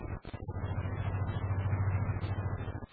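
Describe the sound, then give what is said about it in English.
A car engine runs steadily as the car drives along a busy thoroughfare, a continuous low rumbling drone with a faint hiss above it, holding an even loudness for the whole three seconds apart from a brief dip near the start. “I heard the car. Stop the car.”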